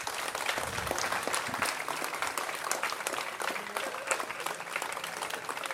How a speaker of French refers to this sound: Applaudissements, monsieur, dames,